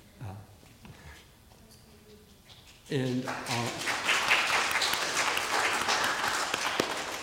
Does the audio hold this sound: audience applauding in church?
yes